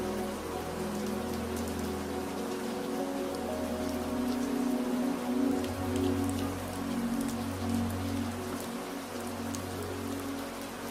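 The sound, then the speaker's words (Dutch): Steady rain patters on a surface, a dense continuous hiss of drops with scattered sharper ticks, even in loudness throughout, with a low rumbling hum underneath and no voices. “Elke druppel is als een kleine zegen die je helpt om te ontspannen en tot rust te komen.”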